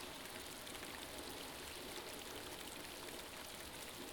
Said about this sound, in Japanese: この雨はきっとあなたの涙。